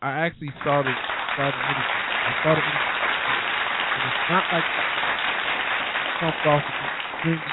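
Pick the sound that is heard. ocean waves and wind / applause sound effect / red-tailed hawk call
applause sound effect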